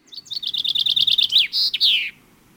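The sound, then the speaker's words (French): A small songbird, probably a blue tit, sings: a quick, even trill of about a dozen high notes, then two longer, drawn-out notes, clear against a quiet background. “Elle s'en distingue par des ailes à dominante bleue, un ventre jaune et une tête blanche surmontée d'une calotte bleue”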